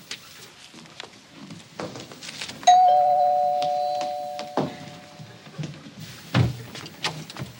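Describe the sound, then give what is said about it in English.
A doorbell rings once, its clear tone hanging and fading over a couple of seconds, with scattered soft thumps and clatter in the room before and after. “Get that, Peg? Answer door.”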